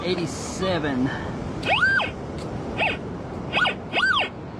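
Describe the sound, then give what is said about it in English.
A metal detector's target tone rings out in four or so short electronic chirps, each swooping up and back down in pitch, fairly loud, after a brief murmur of voice; the detector is reading a target in the scoop. “Alright, now it's ringing up a”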